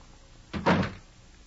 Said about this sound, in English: After closing the door, Van Helsing opened the note and read.